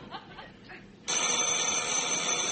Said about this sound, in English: That's the front doorbell again.